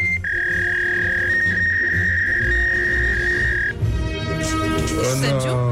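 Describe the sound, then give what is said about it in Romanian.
A telephone tone sounds while a call to Dorohoi is placed: one steady, clear electronic note holds for about three and a half seconds over a low background murmur, then cuts off. “Păi dacă ai băut în Dorohoi, să vedem dacă ne intră tonul.”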